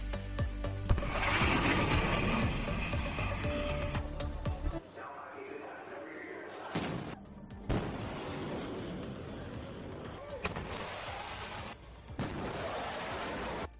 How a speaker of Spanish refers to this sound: Esto que acaban de oír es un avión rompiendo la barrera del sonido. En esta situación se produce lo que se denomina boom supersónico u onda de choque.